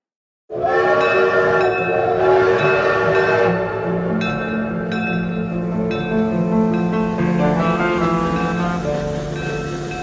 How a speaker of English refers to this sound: It was a fine summer's day, and I was returning from Paris on the morning service to London. I was deep in thought as the train was pulling out,